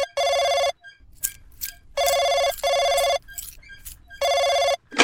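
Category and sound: signal or alarm, telephone ringing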